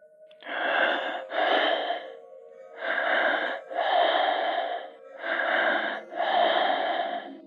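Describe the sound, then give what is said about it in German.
Heavy, raspy breathing comes through a telephone line during a call, with six slow, loud breaths falling into three in-and-out pairs, sounding thin with no talking. “Dann setzt ein schweres Atmen ein.”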